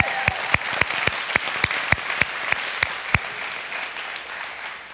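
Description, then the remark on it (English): A church audience claps in a steady rhythm as a way of saying amen to the preacher, about a dozen sharp claps standing out over a softer wash of applause that dies away after roughly three seconds. Nobody speaks. “Clapping is the church's way of saying amen when the preacher's talking.”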